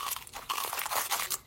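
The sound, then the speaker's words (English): Crisp crunching of a bite into Korean fire chicken, a fried chicken, with several sharp crackly bursts of chewing over about a second and a half, no talking. “Korean fire chicken?”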